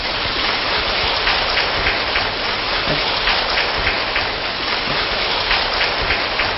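An audience applauds steadily to welcome Buddhist actor Tuấn Phương on the programme Hoa Mặt Trời, a dense wash of many hands clapping at an even, loud level for several seconds without any voices over it.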